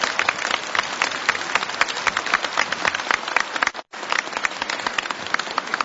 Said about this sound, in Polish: Powitajmy go bardzo serdecznie. Na pewno słyszy te oklaski.